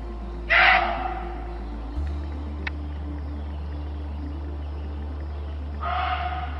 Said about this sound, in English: Now, speaking of animals, the screaming in the forest is a creepy detail of the story, but it was probably a deer. Oi, deer scream? Muntjac deer do.